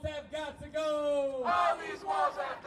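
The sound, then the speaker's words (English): A crowd of protesters in Charlotte, North Carolina, confronts federal immigration agents on Tuesday, shouting loudly, several raised voices overlapping in sustained, strained yells and chant-like calls that swell and break in rough bursts over a couple of seconds. “And a crowd on Tuesday confronted agents”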